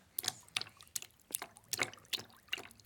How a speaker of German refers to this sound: Gemeinsam tauchten sie ins Wasser ein. Die kühle Umarmung des Meeres war sofort vertraut und die sanften Wellen klatschten leise aufeinander.